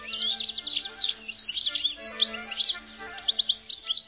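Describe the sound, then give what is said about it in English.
A European goldfinch sings a bright, rapid stream of tinkling twitters and chirps, continuous, with no voices. “No wonder Vivaldi found the goldfinch irresistible.”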